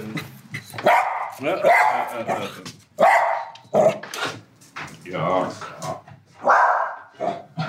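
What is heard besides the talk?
dog barking at someone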